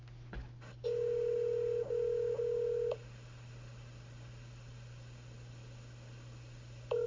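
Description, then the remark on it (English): A phone line rings out unanswered: a steady ringback tone buzzes for about two seconds, falls silent over low line hum, then starts again at the very end. No one speaks. “Usually people don't answer my phone calls.”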